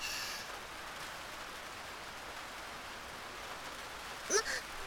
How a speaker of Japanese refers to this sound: まずいです。このままじゃびしょびしょに。どこかに雨宿りしないと。